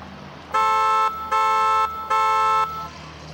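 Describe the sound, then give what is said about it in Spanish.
Three loud, sustained car horn blasts in an even rhythm, each about half a second long, over a low rumble of street noise as traffic begins to move. “Miren, el tráfico comienza a moverse.”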